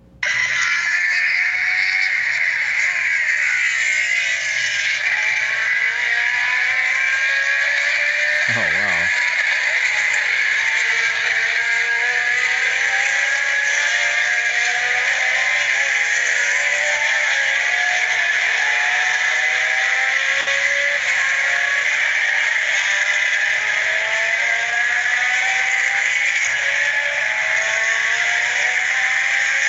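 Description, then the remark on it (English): High-pitched engines of vintage Formula 1 race cars from the 1970s and 1980s scream continuously at a historic Formula 1 Masters Championship race, with repeated rising and falling whines as cars rev and pass by, loud and sustained throughout with no talking. “And I just want to play you this, because yes, this is what Formula 1 cars used to sound like.”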